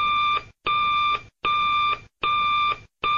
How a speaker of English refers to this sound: then they would push a button on the bat phone. It sounded something like this.